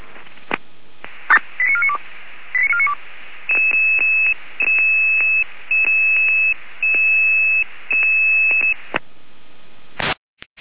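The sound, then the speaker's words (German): Radio dispatch alert tones for a Weimarer Land alerting: two quick runs of stepped beeps, then a long steady high tone broken into a series of evenly spaced pulses, ending in a short burst of static. No one speaks. “Weimarer Land, Alarmierung.”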